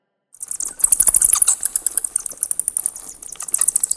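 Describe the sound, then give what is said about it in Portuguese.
Quick, dry rustling flutters in rapid bursts, fairly loud, imitating the beating of bat wings; it runs steadily for several seconds with no voices. “Tu falas e os morcegos farfalham.”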